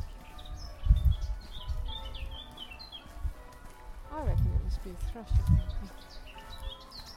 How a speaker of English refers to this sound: Is that a blackbird again?